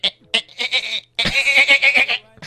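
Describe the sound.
A person imitates a dolphin's call with high, squeaky chattering: a few short clicky chirps, then a longer warbling, trilling squeal that fades out.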